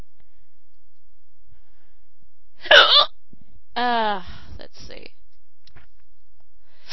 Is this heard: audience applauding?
no